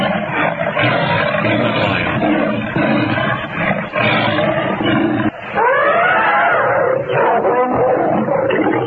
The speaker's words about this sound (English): this is a clip where Tarzan is attacked by lions and then saved by an elephant